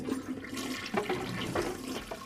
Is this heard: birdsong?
no